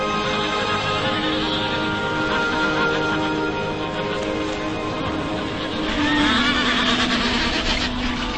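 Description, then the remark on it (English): A dense seabird colony of hundreds of thousands of birds calls nonstop at its breeding nests, many overlapping honking and braying voices blending into a loud, steady chorus that swells slightly toward the end, with no talking. “Waiting in this bustling metropolis of hundreds of thousands of birds, her mate shores up the nest from last year's breeding.”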